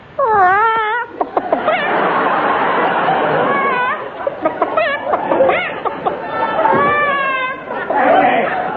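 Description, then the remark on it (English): A voice does a loud, warbling chicken impression, squawking and clucking in rapid rising and falling bursts for several seconds, with brief chattering sounds mixed in. “I say, you midget, can't you stop that naughty chicken noise?”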